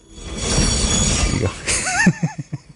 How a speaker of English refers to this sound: That right there is legit the Lumberjack Train